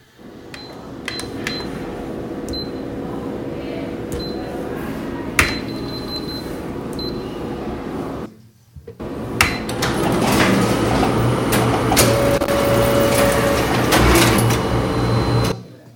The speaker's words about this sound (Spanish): La impresora. ¡Correcto! ¡La impresora!